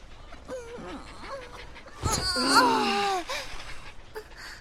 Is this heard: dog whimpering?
yes